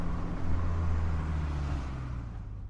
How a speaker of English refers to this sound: We stop the car in a lay-by at the Parco della Remembranza.